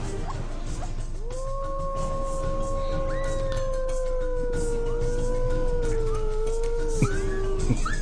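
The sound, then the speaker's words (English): A long, steady wolf howl rises and holds for several seconds, slowly sliding lower, while a second higher howl joins partway through, over a constant outdoor background noise. “And teaching wolves how to survive in the wild. This is an ideal time now to start to begin to teach them their language.”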